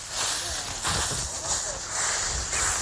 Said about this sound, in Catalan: Home, això és un trepitjar de fullaraca, de fulles, fullaraca, no? Fullaraca, sí, senyor.